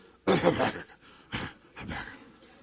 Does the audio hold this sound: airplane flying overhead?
no